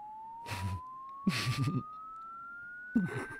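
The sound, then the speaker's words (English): A thin, steady electronic tone glides slowly and continuously upward in pitch through the range of human hearing, interrupted by three short bursts of muffled voices or noise over it. “So this is all the tones that a human can hear.”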